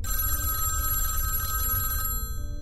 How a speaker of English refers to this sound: Is there a phone in here? Oh, yes, there is, actually. Any chance you might answer it? Any chance it's good news? Probably not, but could you answer it anyway?